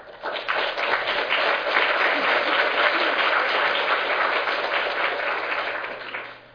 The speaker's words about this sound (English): Let's give a round of applause for all of our presenters.